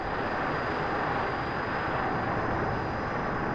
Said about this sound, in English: This time, two planes were used for the mission. A slow-flying Bronco carries this device to aim a laser beam at the target. The Bronco sets out on its mission, followed by a Phantom jet carrying a load of smart bombs, each with the laser seeker.